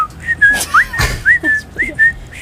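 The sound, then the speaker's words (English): A person whistles a string of short, bright chirps and trills in quick, uneven bursts, imitating birdsong, clear, with faint background noise and a soft thump partway through. “Are you able to whistle? This one, sure, yeah. This give us some bird chirping.”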